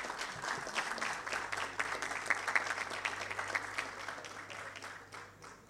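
An audience claps steadily for several seconds, a dense, even patter of many hands that holds its level and then thins out slightly toward the end.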